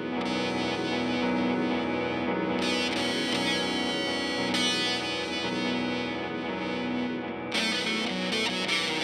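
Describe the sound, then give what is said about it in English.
A dense, buzzing distorted guitar-like tone with smeared, repeating tape delay echo trails, distortion thrown on over a clean recorded pass, steady and loud throughout, with bright gritty bursts swelling in partway and near the end. No voices. “You know, and a nice thing there is you lay it down without the dirt, and then you throw the distortion on over the top.”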